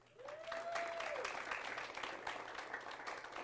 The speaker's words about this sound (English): We're not applauding him, we're applauding the Lord, right? Just praising the Lord.